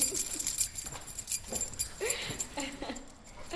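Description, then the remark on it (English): A set of keys jingles in a run of bright, irregular metallic clinks, shaken and passed between hands as it is handed over, with faint voices murmuring softly underneath. “So these are the keys.”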